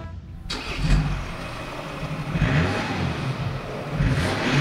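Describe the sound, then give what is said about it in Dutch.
A diesel car engine cranks and catches after a brief quiet moment, then settles into a rough, rumbling idle with a few rising revs, fairly loud, with no talking. “Het is wel een diesel, hè? Het is een diesel, zeker.”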